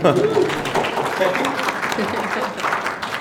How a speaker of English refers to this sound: It's okay to applaud after that trailer.